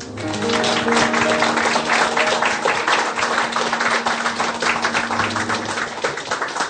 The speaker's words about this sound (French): Raison de plus pour accueillir avec encore plus d'applaudissements nos deux intervenants.